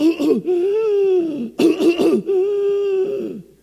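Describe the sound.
A voice imitates a 4-year-old boy's harsh, barking croup cough: three loud bouts of rough coughs, each followed by a long, strained, wheezing breath.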